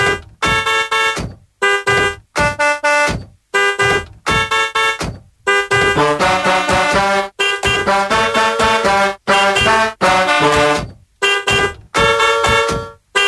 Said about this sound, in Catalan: Ara la gent que està al cotxe no deu entendre si és el seu clàxon, si és el de davant, el de darrere...